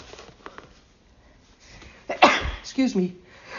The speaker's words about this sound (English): 1 second, I have to sneeze.